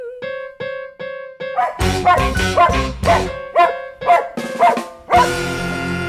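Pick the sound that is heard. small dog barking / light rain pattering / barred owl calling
small dog barking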